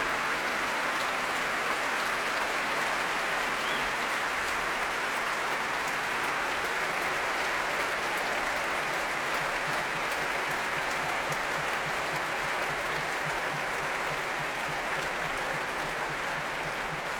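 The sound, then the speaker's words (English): Sustained applause from a packed concert audience at the Royal Albert Hall for violinist Alina Ibragimova and the BBC Symphony Orchestra, a dense, even wash of clapping that holds steady at a fairly loud level for the whole stretch, with no voices standing out. “Here she is returning, smile on her face and on that of Hugh Watkins, who joins her, applauding both Alina Ibragimova and the BBC Symphony Orchestra.”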